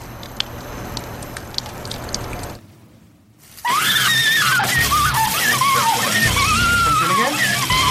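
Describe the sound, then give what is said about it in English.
A crackling, fizzing slosh of liquid as a hand dips into a vat of acid, followed by a brief hush, then loud, wavering screams of women over continued hissing and bubbling. “That's the hand dipping into the vat of acid.”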